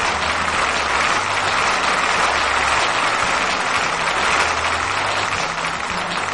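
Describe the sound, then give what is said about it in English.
Steady, dense applause from a crowd, many hands clapping at once in a continuous wash of sound for several seconds, loud and even with no voices over it. “Let's hear it for UK Ted, everybody.”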